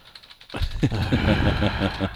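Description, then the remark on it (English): Rapid typing on a computer keyboard, a dense run of quick plastic clicks, starting after a brief quiet moment and continuing steadily to the end. “Glad your typing skills are so good.”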